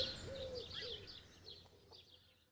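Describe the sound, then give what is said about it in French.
A magpie calls in a series of bright, scratchy chirps and whistles, moderately loud against a low outdoor rumble, trailing off toward the end, on Mont Fenouillet, a wild area. “Tu entends cet oiseau ? C'est une pie.”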